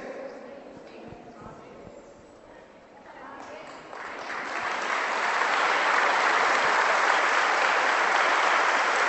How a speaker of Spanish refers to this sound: Yo hice una pregunta. Que el aplauso sea para Cristo, pero yo hice una pregunta.